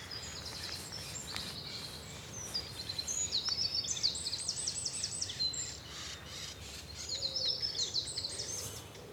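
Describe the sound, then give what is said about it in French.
A dunnock sings two quick, high, jingling warbles, one after the other, clear over a low outdoor rumble, with a few faint chirps between phrases. “C'est lui, mon petit accenteur mouché.”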